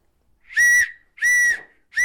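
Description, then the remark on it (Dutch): Three loud, shrill blasts on a whistle used to scare away bears, each held about half a second with short gaps between, the last one cut off at the end. No talking. “Als je in een gebied komt waar beren lopen en er komt een beer in de buurt, moet je hierop blazen.”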